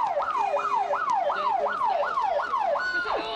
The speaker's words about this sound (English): Someone waves or whistles, and an ambulance appears as if on cue.